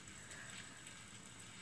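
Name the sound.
rain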